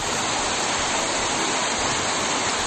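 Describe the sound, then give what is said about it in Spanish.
A heavy downpour in Madrid, Spain, in the early morning roars steadily, a dense, unbroken hiss of rain filling the whole sound with no pauses or voices. “Fuertes trombas como escuchas de agua que han provocado largos atascos, varios accidentes en las carreteras madrileñas y también muchos cortes e interrupciones en algunas líneas de metro y de cercanías”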